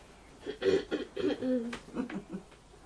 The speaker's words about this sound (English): Clearing your throat